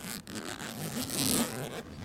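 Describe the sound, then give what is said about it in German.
The zipper of a bag holding books is pulled open in one continuous rasping stroke, fairly loud, its gritty buzz swelling briefly near the end before it stops. “Richtig, das ist ein Reißverschluss einer Tasche.”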